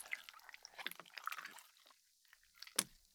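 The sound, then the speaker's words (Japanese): Quiet chewing with a soft fizzing crackle, many small wet pops and clicks scattered irregularly, then a brief lull and one sharper crunch near the end. No one speaks. “確かにシュワシュワした音、うん、聞こえるかな。”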